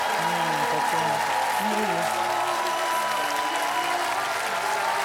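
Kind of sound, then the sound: crowd, audience clapping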